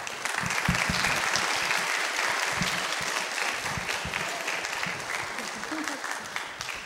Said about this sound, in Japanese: また盛大な拍手をお願いします。